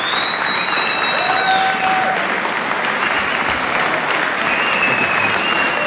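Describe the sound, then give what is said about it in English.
Steady, dense applause from a large crowd for Wisconsin Governor Scott Walker before his biennial budget address, a loud continuous wash of clapping that holds an even level throughout, with a few faint whistles rising above it. “It does appear that with a little more applause, the governor will proceed with his biennial budget address.”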